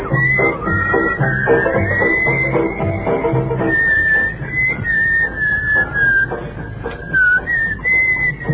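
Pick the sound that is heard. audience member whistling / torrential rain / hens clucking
audience member whistling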